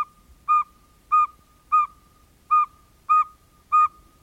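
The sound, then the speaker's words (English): A northern saw-whet owl repeats a clear, high whistled note six times at a steady, even pace, each toot short and tonal like a small recorder, with quiet gaps between calls. “In your head, you think, I know what an owl sounds like, and then you learn that you don't.”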